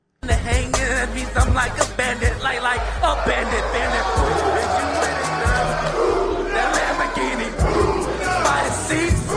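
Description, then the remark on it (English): A large crowd roars and shouts continuously at the end of a song performance by Rome Odunze in front of his guys, with loud overlapping voices and sharp bursts of noise, a sustained dense wall of cheering and yelling that swells throughout. “They roar at the end.”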